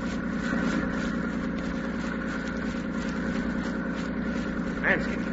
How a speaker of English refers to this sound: it is an engine. Landing barge.